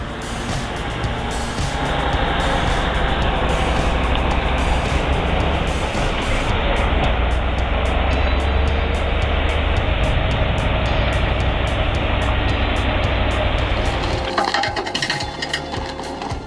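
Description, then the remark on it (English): A big Mercedes 5.8 engine runs loud in a steady, continuous rumble with a gritty mechanical clatter on top, shifting tone briefly near the end. No voices. “I must confess, the auditory experience of the Mercedes 5.8 engine is remarkably captivating, surpassing even the impressive sound of the Scania.”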